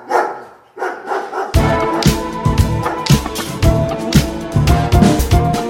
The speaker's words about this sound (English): if the other dog starts barking in the backyard, then she starts barking on the other side, and we got dogs in stereo